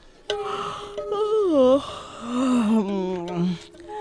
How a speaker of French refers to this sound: Bâiller.